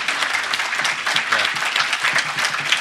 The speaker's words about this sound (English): So let's just hear a round of applause for Milos.